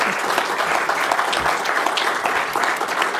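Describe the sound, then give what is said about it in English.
A crowd at a Third CD Democrats of Wisconsin event applauds its political candidates steadily, many hands clapping in a dense, even patter that holds at a fairly loud level throughout, with no talking over it. “And with that, could we have a round of applause for our candidates, please?”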